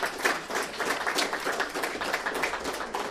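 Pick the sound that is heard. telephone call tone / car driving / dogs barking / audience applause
audience applause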